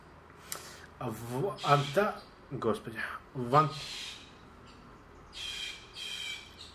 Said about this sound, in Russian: А, это птицы. Я думал... Машины у кого-то. На самом деле, я сперва подумал, это птица, а потом подумал, что это машина.